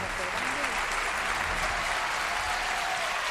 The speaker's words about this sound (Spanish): Este aplauso que suena se lo podía estar dando Julia o todos nosotros